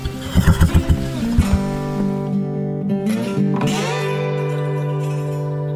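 horse neighing

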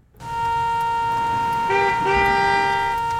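car horn honking

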